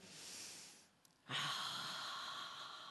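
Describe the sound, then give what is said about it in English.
A soft breath in through the nose, a brief pause, then a long, breathy exhale through an open mouth with a gentle "haa" quality, steady and unvoiced, with no talking, done as a deep-breathing exercise. “Breathe in through your nose, breathe out with your mouth with a ha sound.”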